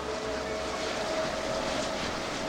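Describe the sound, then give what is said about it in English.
Wind turbines whoosh steadily on an exposed ridge at Altamont Pass, just east of San Francisco, a constant airy rush with a faint mechanical hum running underneath, fairly loud and unbroken with no voices. “Today, another sound sweeps through Altamont Pass, and some say it's just as ominous.”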